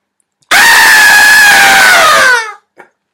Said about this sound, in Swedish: Skrik en gång.